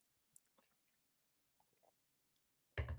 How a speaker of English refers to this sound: I'm going to take a sip of my water here real quick.